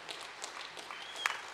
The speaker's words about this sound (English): You can clap for the Lord this morning.